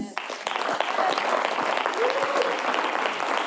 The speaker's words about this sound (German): Wollen wir ihm mal einen Applaus geben?